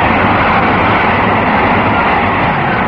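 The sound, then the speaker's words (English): The Manchester Express train rushes through with a loud, steady, unbroken roar and rumble lasting about three seconds, with no voices. “the Manchester Express is coming through again.”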